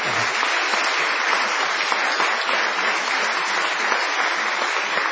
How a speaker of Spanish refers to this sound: Aquí estamos, en el galponcito de la calle Gorriti 5963, con mucha gente amiga. Vamos a extender el aplauso para homenajear